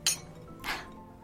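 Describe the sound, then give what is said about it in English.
Two glasses, one holding a pink squirrel cocktail and one a martini, clink together in a toast, two bright, ringing taps about half a second apart, with the second a little softer and longer-ringing. “Cheers to Mother.”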